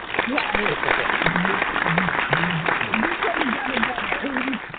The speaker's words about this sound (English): Perfect. Spot on. Round of applause.